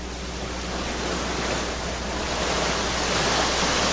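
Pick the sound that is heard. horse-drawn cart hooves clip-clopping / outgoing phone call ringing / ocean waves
ocean waves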